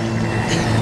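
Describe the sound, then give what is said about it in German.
A car's engine rumbles steadily as a car approaches, a brief, continuous low hum, moderately loud, with no voices over it. “Ein Auto kommt.”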